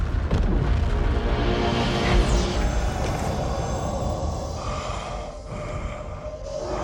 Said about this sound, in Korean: 곧 폭발하니 대피하십시오.